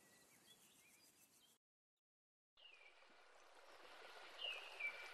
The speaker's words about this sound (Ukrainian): І ось ми біля містка. Річка дзюрчить, жаби кумкають, дошки хилитаються, погойдуються.